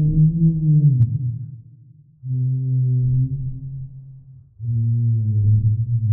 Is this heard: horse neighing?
no